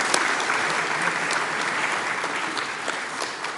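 Steady audience applause for a woman who is rarely present, filling the whole stretch: a dense, even wash of many hands clapping at a fairly loud, constant level with no talking over it.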